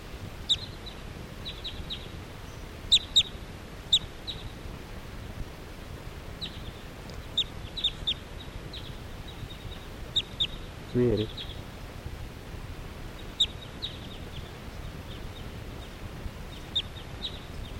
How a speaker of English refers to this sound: So recording, the flock is flying away. This is 380. And now the birds are just generally flying in the air around here.